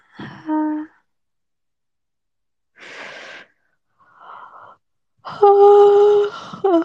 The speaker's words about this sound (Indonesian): Udah berapa kali nih aku nguap nih.